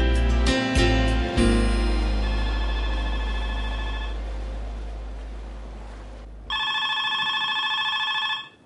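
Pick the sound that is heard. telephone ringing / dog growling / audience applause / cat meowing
telephone ringing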